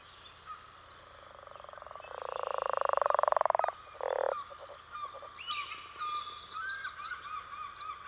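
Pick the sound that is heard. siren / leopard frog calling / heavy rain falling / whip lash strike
leopard frog calling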